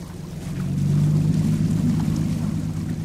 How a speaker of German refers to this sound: Pat steuert sein Boot auf den Fluss. Die Brüstung ist vergittert. Eine Vorsichtsmaßnahme. Von einem Ufer zum anderen sind es gute 200 Meter.